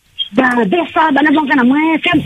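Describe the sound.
A radio plays through a small loudspeaker, carrying a thin, tinny voice that talks continuously with only brief pauses, fairly loud and close.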